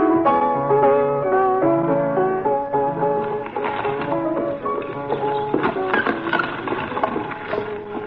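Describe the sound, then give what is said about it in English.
A horse and wagon on the way to Yenshiva before the Sabbath, clip-clopping, with a steady run of hollow hoof clops mixed into sustained, melodic musical tones that carry on throughout; no one speaks. “Papa, even the horse and wagon sings a song.”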